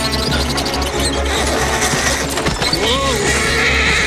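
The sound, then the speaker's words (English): A horse named Philippe whinnies with a rising-then-falling cry late in a loud, dense, continuous wash of sound, as it breaks into a gallop. “Philippe breaks into a gallop.”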